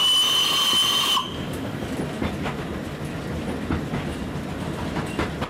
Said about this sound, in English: An SW sign appears at the side of the track, and Roger reaches for the whistle.